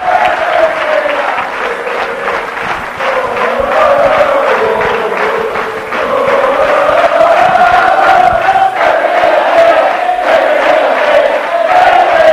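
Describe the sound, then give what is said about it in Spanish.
A loud crowd cheers and claps inside a hall in Alcalá de Henares at a tribute by the peña Ramón Mendoza to footballer Pepe for his 10 years at Madrid, a dense, steady roar of many voices with sustained chanting tones rising and falling over continuous applause, shouting "Pepe, quédate". “Este es el sonido del interior de la sala con Pepe.”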